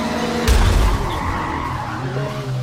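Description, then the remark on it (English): Video-game race cars roar steadily during a multiplayer racing demo, with a loud burst of tire skidding near the start and engine tones shifting throughout; no voices are present. “And you can hear the other cars, I think, when they change laps.”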